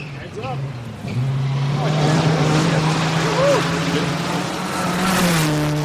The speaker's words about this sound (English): My jaw drops as the first car passes in the road 10 feet in front of me.